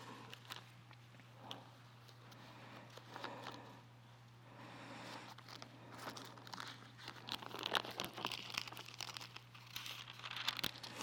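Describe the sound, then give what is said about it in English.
Paper rustles and crinkles steadily for several seconds as pages are handled and shuffled while searching for the page with Habakkuk 3:19, with sharper crisp bursts toward the end over a low steady hum. “Which I totally had this paper in and then took out. It's going to take me a second.”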